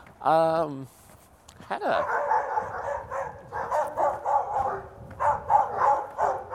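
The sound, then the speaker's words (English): A sharp, high dog bark rings out, then a steady run of rapid, overlapping barks follows for several seconds, with muffled voices in the background. “Anyway, so, you know, if you hear me getting mauled by dogs, then then, well, at least we'll have a legal record of it.”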